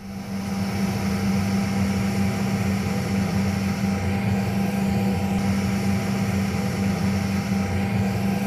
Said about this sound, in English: Now, depending on the volume you're listening to the radio right now, I'll give you a few seconds of aircraft cabin noise to get familiar and to adjust your radio volume to the volume it would be inside an aeroplane.